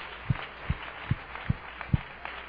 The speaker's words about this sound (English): Hallelujah. Let's clap our hands one more time and give the Lord a hand clap offering.